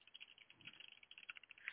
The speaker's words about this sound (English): That did not sound like a real keyboard. That sounded like you played a keyboard sound effect. Oh, no, totally a keyboard.